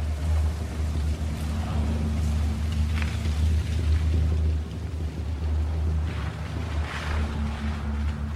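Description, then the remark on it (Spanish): A garage gate opens as a latest-model car with a smashed license plate and bloodstains rolls in, its engine a steady, low rumble throughout, with brief rattling, scraping bursts rising above it. No one speaks. “El portón de una cochera se abre.”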